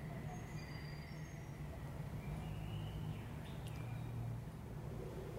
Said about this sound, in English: So even over the traffic, you can still hear the birds, and it's beautiful, you can hear it.